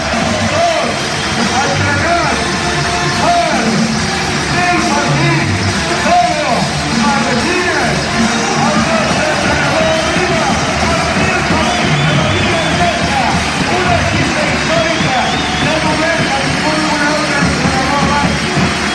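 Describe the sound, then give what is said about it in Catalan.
A large crowd at the Nou Congost arena roars in a sustained ovation for coach Pedro Martínez. The ovation is a dense wall of cheering, whoops and clapping that stays loud and steady throughout, with occasional shouts rising above the mass of voices. “Deixa'm dir-te també emocionant que al seu costat estigui algú que va començar amb ell l'any 90, Salva Maldonado, i aquesta és l'ovació del nou Congost.”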